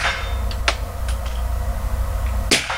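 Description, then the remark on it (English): Two sharp, muffled cracks from a .45 caliber handgun fired with a suppressor in a demonstration for the media, the second louder, with a few fainter clicks between them over a steady low background rumble. “Did anyone not hear that suppressed gunshot?”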